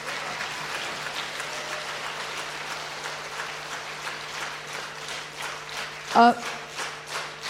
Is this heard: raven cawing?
no